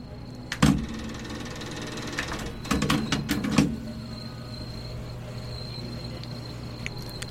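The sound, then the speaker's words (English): A steady, faint hiss from a cassette tape player playing live in a community radio studio runs throughout over a low hum, broken by a few sharp clicks and knocks early on, with no one speaking. “You can kind of hear the hissing of the tape player, which I appreciate.”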